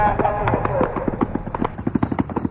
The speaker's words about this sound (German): Kurz danach fallen erste Schüsse. Mit Pickups, Motorrädern und Quads stürmen die Terroristen das Festivalgelände, feuern aus ihren Kalaschnikows wahllos in die Menge flüchtender Festivalbesucher.